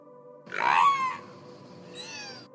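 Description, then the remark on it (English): A killer whale named Wiki imitates human speech: two short, squeaky, nasal vocal bursts separated by a brief pause. The first is louder and rougher, the second higher and thinner, with no other voices. “She's the first killer whale ever to be recorded imitating human speech.”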